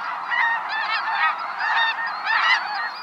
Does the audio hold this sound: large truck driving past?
no